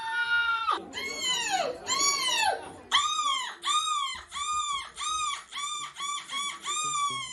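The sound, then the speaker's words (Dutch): A person imitates a seagull with loud, harmonic screeching calls: a couple of long wails followed by a rapid run of repeated, arching cries, continuous for several seconds, by a bronze medallist at the European Championship of seagull screaming. “brons gehaald op het EK Meeuwenschreeuwen.”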